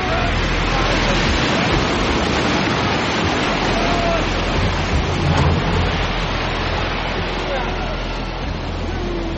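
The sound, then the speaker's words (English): A raging storm at sea around a ship, a dense, unbroken roar of wind, rain and surging water that holds steady and loud, easing only slightly in its final moment as the storm dies down. “I've never seen a storm die so fast!”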